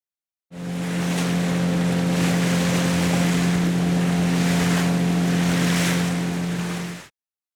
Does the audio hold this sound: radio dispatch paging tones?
no